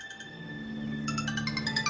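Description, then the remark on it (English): A telephone rings early in the morning while a couple is asleep, with a bright electronic ringtone, its rapid warbling pulses starting about halfway through and repeating steadily over a low, sustained hum. No one speaks. “My husband and I, we were sleeping and the phone rang.”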